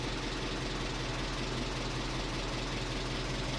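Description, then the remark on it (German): The small engine of a rotary tiller runs steadily at idle after a hard start, a constant low, rumbling drone with a faint knocking pulse throughout and no voices. “hat ein bisschen Mühe gehabt zum Anlaufen.”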